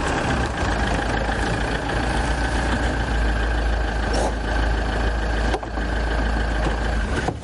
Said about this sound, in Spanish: La furgoneta para en la calle del centro de acogida.